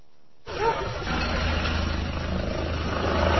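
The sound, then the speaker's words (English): A steady, rumbling mechanical drone of helicopters flying overhead, with a low throbbing hum, starts abruptly and holds at a constant, fairly loud level throughout. “Hear the helicopters?”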